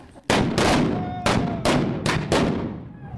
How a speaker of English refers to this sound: a dirt path leading to a clearing where there was an antique cannon with a freshly lit fuse. Listen up! Listen up! Everybody still here? Good. All right, so, anybody that's sitting down there by that cannon, it's going off and it's gonna be loud.